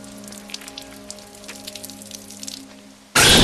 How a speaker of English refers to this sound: Juno is standing under the stream of water.